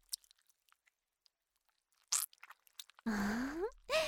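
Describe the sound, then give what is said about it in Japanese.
Sparse, soft wet clicks build into a short squishy squelch as a penis is pushed into a pink onahole (silicone masturbation sleeve) filled with lotion, followed by a long, drawn-out voiced vocalization with a rising pitch and another brief vocal sound. “ズルズル入っていきます。”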